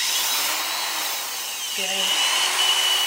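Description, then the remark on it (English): A power drill fitted with an old paint stirrer whines steadily, mixing clay and water into a thick muddy mix, its pitch dipping and wavering briefly partway through before settling back into a continuous high drone. “And after that, he adds water until it's a thick, muddy substance using a drill attached to an old paint stirrer.”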